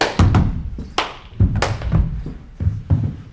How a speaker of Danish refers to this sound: Klappet først, og så to tramp bagefter. I skal være klar med fødderne.